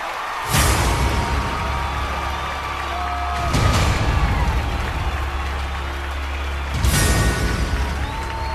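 A loud studio crowd cheers and roars continuously, with three sharp swells of noise rising every few seconds over the steady din.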